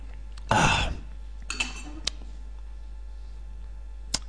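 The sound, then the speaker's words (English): A glass of water clatters briefly as it is picked up for a drink, followed by softer handling sounds and a couple of sharp, isolated clinks against a quiet background with no talking. “Okay, well, I'll drink a little water.”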